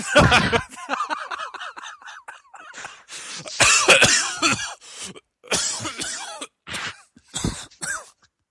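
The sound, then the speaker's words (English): A person coughs repeatedly and fairly loudly, a string of harsh, mucus-laden bursts with strained throat clearing in between, sputtering on in uneven fits for several seconds. “Would you like a cough drop?”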